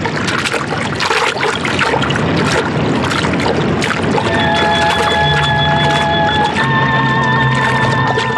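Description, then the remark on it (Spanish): A small jet's fuselage slams into heavy sea waves, its structure shuddering, with a loud, continuous rush of crashing water and splintering wreckage, followed by sustained metallic ringing tones over the churning surf as the plane tosses on the waves. “El fuselaje del avión hizo contacto con el mar y la estructura se estremeció como si gigantescas manos la apretaran.”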